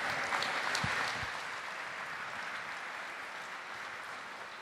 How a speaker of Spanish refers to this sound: Aplausos al uno, caramba.